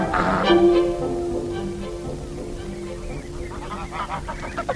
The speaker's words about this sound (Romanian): Lângă țarinele din Gotland, aproape de aici, este un cârt de gâște sălbatice.